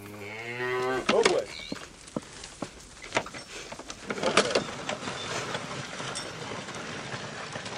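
A cow lets out a deep, drawn-out moo, then a couple of shorter lowing calls follow against a steady murmur of outdoor background noise.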